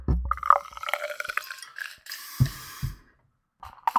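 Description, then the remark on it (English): Beer gurgles and splashes into a Weizen glass for about two seconds, then a steady fizzing hiss with a couple of soft clinks, fairly quiet, with no talking. “I'm using a Weizen glass.”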